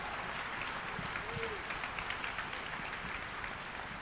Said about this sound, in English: Yes, clap the Lord. Amen. Taputtakaa Herralle. Amen.